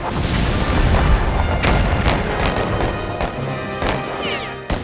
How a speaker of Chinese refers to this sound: 而同时港口对面的邦联炮舰亦做好准备，他们的炮声就是开战的信号，港口周围的其他炮舰会一起投入战斗。